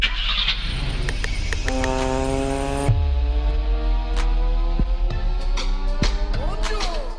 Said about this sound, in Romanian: Vezi că spargem difuzorul. Acum când pornim motorul.